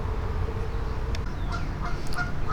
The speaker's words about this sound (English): And as these geese start honking, a little turtle just crawled up onto this little log.